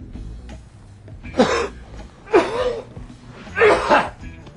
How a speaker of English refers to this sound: Damn. That don't sound too good, Bill Murray. It's not flu or anything. It's just smoker's cough.